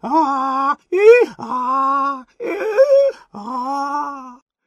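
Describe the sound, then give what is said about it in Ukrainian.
Two voices imitate donkeys, letting out loud, drawn-out braying cries as a duet in place of moans and complaints, in about five bursts with short breaks between them, some rising and wavering in pitch. “Замість стогонів і нарікань з їхніх горлянок видерся ослячий рев. Вони голосно заревли дуетом.”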